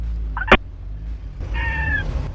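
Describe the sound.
A voice imitates a screaming goat: a short bleat and a sharp click, then a longer, wavering, high-pitched cry lasting under a second, over a steady low hum.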